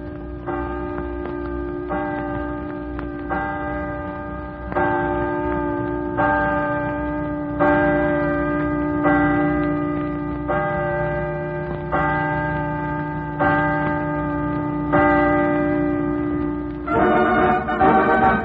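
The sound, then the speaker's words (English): The chimes on the campus of the University of Washington in Seattle ring twelve o'clock noon out across Lake Washington, twelve steady, evenly spaced strokes, each bell tone sustaining with rich overtones over a low hum, ending in a brighter burst of ringing. “I'd get a wonderful thrill if the chimes on the campus of the University of Washington at Seattle would ring 12 o'clock noon”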